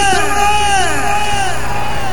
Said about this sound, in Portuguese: Quem tá gostando, dá um gritão!